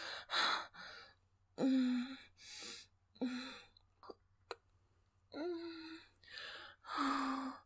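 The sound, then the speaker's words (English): A woman's sharp, breathy gasps come in quick succession, several loud inhales and exhales in an uneven rhythm, some with a brief voiced catch, with no words spoken. “Hear the gasps.”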